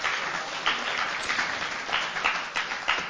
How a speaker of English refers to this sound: Let's give him a clap. Amen.